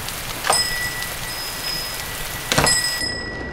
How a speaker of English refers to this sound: It's raining to beat all.